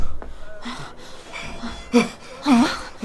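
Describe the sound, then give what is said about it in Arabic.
Ragged, heavy breathing with a few sharp gasps and strained, whimpering catches of voice, uneven and rising in bursts, as Ibn Muljam al-Muradi pants in fear after coming running. “ما لك تلهث خائفا يا مرادي؟”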